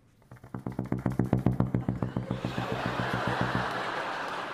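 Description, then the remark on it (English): A bassoon imitates a helicopter: a low, buzzy reed tone tongued into rapid, even chopping pulses, about ten per second, that swell loudly, then dissolve into a steady breathy, hissing rush. “Of course, because it's a helicopter. All right. You just basically tongue it.”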